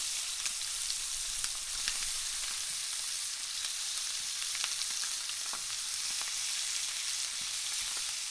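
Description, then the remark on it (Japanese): Chicken seasoned with salt and pepper sizzles steadily skin-side down in hot salad oil in a frying pan, a dense, bright crackling hiss that holds even throughout, with scattered sharper pops and spits breaking through. No one speaks. “フライパンにサラダ油を熱したら塩コショウした鶏肉を皮目から入れていきます。”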